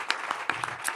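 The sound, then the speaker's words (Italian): Audience applause: a dense wash of many hands clapping at once, steady and fairly loud, with a few sharper individual claps popping out of the noise, and no voices. “Grazie mille, un applauso a voi.”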